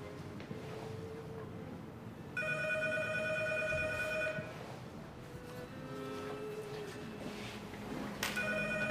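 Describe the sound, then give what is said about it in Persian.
A telephone rings in two long, bright bursts separated by a short pause, over a steady low rumble of background noise, with no one speaking. “میخوای من برم تلفن رو جواب بده؟”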